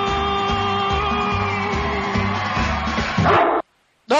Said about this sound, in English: He deserves it if he sang this. He's a singing dog. Greatest American dog.